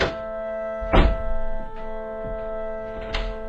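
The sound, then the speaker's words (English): One of many doors upstairs, the first one at hand, being kicked: one heavy, booming thud followed by a few softer, irregular thumps, all over a steady, sustained humming tone with no voices. “We'll just kick the first one at hand, shall we?”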